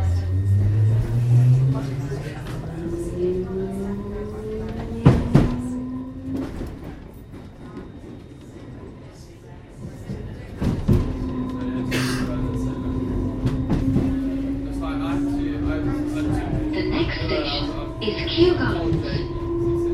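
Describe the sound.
A London Underground District Line train to Richmond, at Gunnersbury, runs with a steady low rumble and a rising electric motor whine, a few sharp clunks partway through, and indistinct voices in the background.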